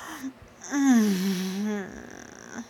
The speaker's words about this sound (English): But you get to listen like I'm right there. Breathing so sensually in your ear.